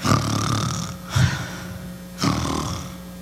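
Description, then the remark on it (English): A person imitates snoring, making three rough, rattling breaths in a steady rhythm. The voice is fairly loud, with no talking. “Well, I don't know if God snores or not, but God probably wouldn't admit it.”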